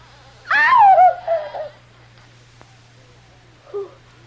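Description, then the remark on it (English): A drawn-out, squealing creak of a locked bedroom door slowly opening, its pitch wavering and sliding downward, then a brief fainter squeak a few seconds later over a steady low hum. “Alone in her room, Kitty stares horrified as the door, which she has so carefully locked, begins slowly opening.”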